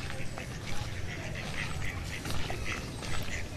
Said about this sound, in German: Ja. Das sind Truthühner. Enten.